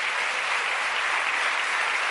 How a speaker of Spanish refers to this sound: ¿Cuántos dan un aplauso fuerte al Señor?